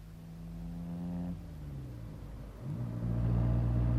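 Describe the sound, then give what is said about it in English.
A car from the Three Sisters hums steadily, its pitch dropping at a gear change and then climbing into a louder, straining drone as it pulls uphill up the pass on a terrible night. No voices. “The car's here for you, sir, from the Three Sisters.”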